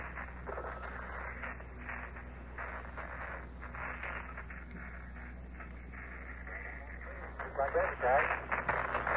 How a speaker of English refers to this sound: Communication's a bit scratchy. They are hearing the same static and whistle in their ear sets, we understand.